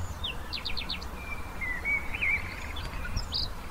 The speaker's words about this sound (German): Gras, Bäume, grün überall und die Vögel zwitschern.